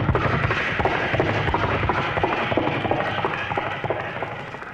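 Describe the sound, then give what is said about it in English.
A voice performs a vocal sound effect of horses galloping, with a rapid, steady run of clopping beats held at an even loudness for a few seconds. “Sound like horses galloping.”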